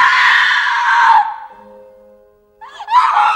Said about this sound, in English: This one, she wakes up screaming, too, which is a bit interesting. We don't know if she just had a nightmare or what,